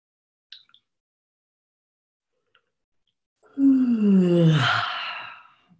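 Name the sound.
a person yawning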